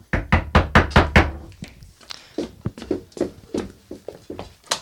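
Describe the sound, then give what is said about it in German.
A rapid series of about eight firm, loud knocks by police on a front door, followed by softer, irregular tapping and thuds with some quiet voices in the background. “Machen Sie die Tür auf, wir wollen mit Ihnen reden.”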